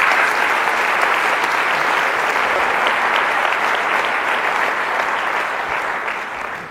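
Sustained applause from a large crowd, steady and loud throughout, with dense overlapping claps that taper slightly near the end.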